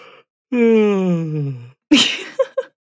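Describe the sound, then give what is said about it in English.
A single drawn-out human yawn, a voiced groan sliding downward in pitch for over a second, then a breathy exhale and a couple of short quiet vocal sounds. Fairly loud, with no speech. “And in this case, more empathy means more catchy yawns.”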